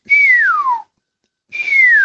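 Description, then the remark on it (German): Two loud, piercing whistles from a common starling, each sliding downward in pitch, separated by a short silence. Clear, with no voices. “Das sind mal so ganz laute, durchdröhnende Pfiffe.”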